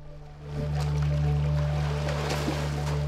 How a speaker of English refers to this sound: Alice pushes off from the side and sets off doing a length of front crawl